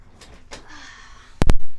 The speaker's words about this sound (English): Hold on, let me pull up a chair.